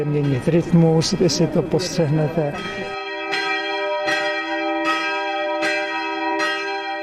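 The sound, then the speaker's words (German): Two small church bells ring together in a steady, overlapping rhythm, their bright strikes fairly loud with long ringing tones; a person talks briefly before the bells take over. “Mit den beiden kleinen Glocken geht es los”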